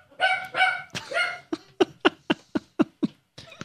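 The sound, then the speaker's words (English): A doorbell rings with a couple of drawn-out tonal sounds, then a dog barks in a quick series of about seven sharp, loud barks, with no one talking. “Our doorbell just rang and the dog barked, but this reminds me of a story.”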